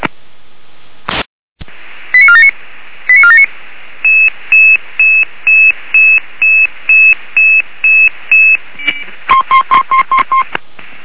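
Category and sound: signal or alarm, dispatch radio alert tones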